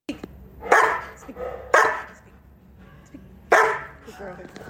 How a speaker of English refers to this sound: That's kind of their personality, and they do have a very big, deep bark. So here's a quick little snippet of that.